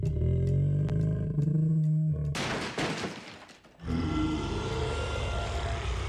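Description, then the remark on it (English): Loud growling and roaring from three bears in several bursts, with a harsh rasping roar in the middle and another sustained roar at the end. No one speaks. “You'll upset them. Who? The bears! Three bears!”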